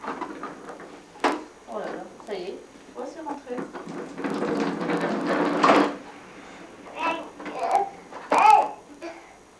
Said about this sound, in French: Le bébé. Oui, c'est le bébé.